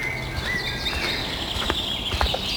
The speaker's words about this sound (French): Nous entrons dans la forêt de Carnoë. C'est majestueux. Forêt mixte. Des oiseaux partout.